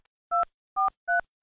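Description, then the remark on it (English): Telephone keypad tones being punched in to enter a zip code on the Boston Cat Hospital after-hours emergency care line: four short dual-pitched beeps at a steady, evenly spaced pace, each ending in a soft click, with silence between and no talking. “To find a facility near you, use your telephone's keypad to enter your 5-digit zip code.”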